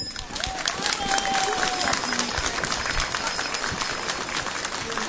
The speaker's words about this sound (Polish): I nasze serdeczne pozdrowienia przekazujemy także wszystkim widzom telewizji Trwam i słuchaczom Radia Maryja, a uczynimy to naszymi bardzo gorącymi oklaskami.